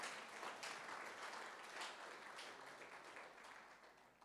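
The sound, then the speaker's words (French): A crowd applauds as an acclamation to God, the one who holds all things in his hands, a dense wash of many hands clapping at once, holding an even loudness for several seconds with slight swells and no voices rising above it. “alors nécessite, oui, un applaudissement, une acclamation à celui qui tient toutes choses entre ses mains.”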